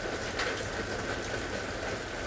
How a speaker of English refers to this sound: Have you noticed as you were focusing more and more on the sound of the rain that the mind quieted down, that there were less thoughts?